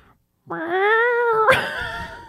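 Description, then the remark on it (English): A person mimics a cat's meow: a long, steady, nasal yowl that breaks into a raspy, breathy wheeze near the end, loud, with no other sounds. “That's your cat that has like asthma.”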